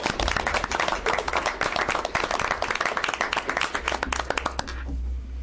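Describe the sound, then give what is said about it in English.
A crowd at a meeting applauds with many hands clapping in a dense, steady patter for several seconds, then it stops abruptly, leaving a low room hum. “Yes. Permission to applaud.”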